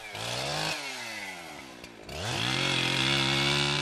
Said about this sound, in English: So you've got your chainsaw? Yes. It's a Husqvarna. Ah.